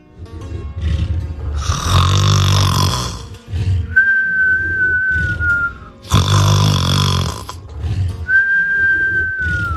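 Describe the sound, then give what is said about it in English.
Loud, exaggerated snoring of a sleeping dragon wound around a tree, likely a voice imitating it: two rumbling, rasping inhales, each followed by a thin, high whistle on the exhale, in a slow repeating rhythm, with no talking. “Soon the beast was snoring like thunder.”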